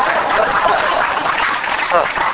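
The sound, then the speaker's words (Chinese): An audience breaks into steady applause, a dense wash of many hands clapping at a constant level for a couple of seconds, with a voice briefly audible through it. “伊七十几岁才学创 PowerPoint 哈、哦，应该有那爱甲拍手。”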